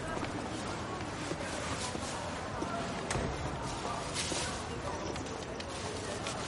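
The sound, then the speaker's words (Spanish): Footsteps of a man who has just left a restaurant clack along a cobblestone street at an even walking pace, set against a dense, steady outdoor background with faint voices murmuring. “El profesor sale del restaurante y camina por la calle empedrada.”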